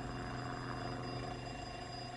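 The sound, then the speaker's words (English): A steady, droning aircraft engine hums continuously with a low rumble and a faint whine, holding an even loudness throughout; a plane coming in to land over the countryside between Hatfield and Welwyn, just outside London. “countryside between Hatfield and Welwyn, just outside London, and coming into land.”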